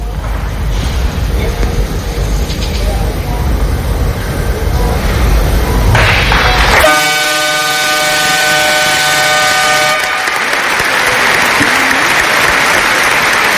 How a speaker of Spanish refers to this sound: Un largo aplauso. Ganó, por cierto, el Valencia Basket 109-80.